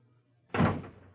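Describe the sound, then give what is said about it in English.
An apartment door swings shut with a single solid thud after a brief hush, the impact loud, then fading quickly into a low room hum. No voices. “Easy with that door”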